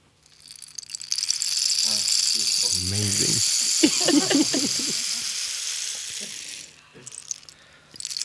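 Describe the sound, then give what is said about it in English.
A rain stick pours out a steady, hissing cascade of tiny rattling beads for several seconds, while a person speaks briefly over it before the sound fades out. “Do you write a song and say, okay, it needs the sound of a rain stick, or does somebody bring in a rain stick and then you're like, we gotta put this in a song?”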